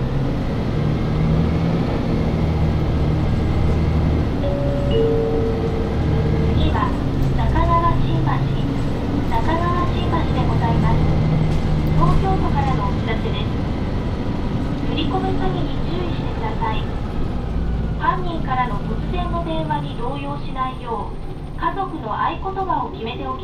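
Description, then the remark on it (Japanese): A bus pulls away from a stop with a steady engine rumble that holds throughout. Over the motor noise, a voice inside the vehicle announces in Japanese that the bus is departing and asks passengers to hold on. “発車します。お 捕ま りください。”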